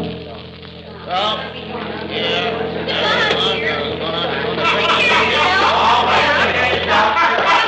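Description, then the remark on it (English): A bus engine rumbles steadily and grows louder as it pulls in, while a crowd murmurs and chatters in the background throughout. “There's our bus pulling in.”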